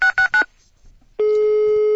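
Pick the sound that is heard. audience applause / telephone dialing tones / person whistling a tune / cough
telephone dialing tones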